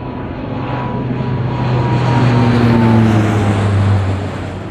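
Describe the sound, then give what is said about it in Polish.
A propeller reconnaissance airplane drones steadily overhead above Poznań, Poland, around 8:30 in wartime, setting off the air-raid sirens. Its engine hum swells a little louder toward the middle before easing off, with no voices present. “ale około godziny 8.30 pojawił się nad Poznaniem samolot rozpoznawczy, który spowodował uruchomienie syren alarmowych.”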